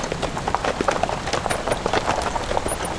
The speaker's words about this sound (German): Und nun lauft, meine Pferdchen, damit auch wir ins Warme kommen.